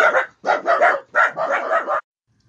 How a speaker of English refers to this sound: Oops, sorry, we had a little bit of a dog outburst there. Anytime I'm recording here at my house, there's a chance there will be a dog outburst.